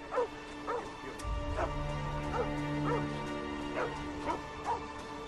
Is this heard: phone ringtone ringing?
no